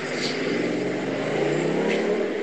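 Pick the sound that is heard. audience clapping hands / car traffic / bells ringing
car traffic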